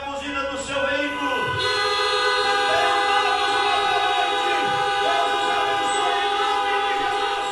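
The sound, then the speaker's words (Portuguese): A crowd of car horns blares together in a loud, unbroken chorus during a church's mass honking, layered steady tones of different pitches overlapping for the whole stretch with no pause. “Acho que os nossos irmãos do rádio nunca devem ter ouvido buzinaço em meio a um programa de rádio.”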